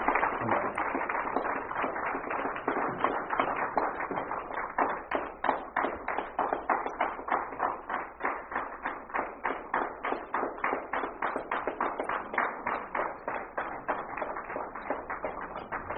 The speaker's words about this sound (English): Give her a big applause again as I say that.